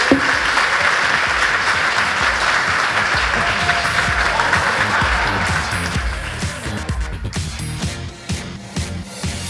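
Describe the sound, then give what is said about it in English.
An audience claps steadily in a dense, sustained burst of applause for a guest, Russell, holding loud for several seconds before thinning out and fading toward the end. “And just a round of applause for Russell.”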